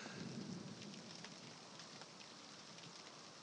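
An approaching thunderstorm, getting closer: steady, heavy rain hisses and patters throughout, with a low rumble of thunder rolling underneath near the start. The storm sound is continuous and fairly loud, with no voices.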